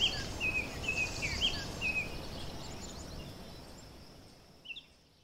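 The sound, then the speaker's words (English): Faint bird chirps and high twittering calls come and go over a soft, steady outdoor hiss like leaves rustling far off, fading gently toward the end. “Now, instead of him talking about how grateful his mother was for him and the company, it was all birdsong and trees rustling in the distance.”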